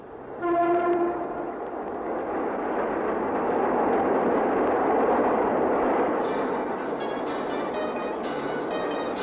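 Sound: train passing with horn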